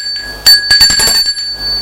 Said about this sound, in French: On a sonné à la porte du portail.